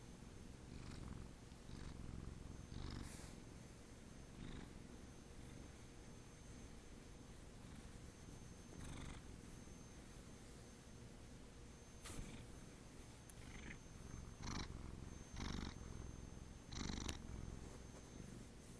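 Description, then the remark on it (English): A female domestic cat named Abby, wanting to be petted, purrs steadily, a continuous low rumble with rhythmic pulses, accompanied by faint rustling and a few soft clicks or movements. “She wants to be petted. Listen to her purr.”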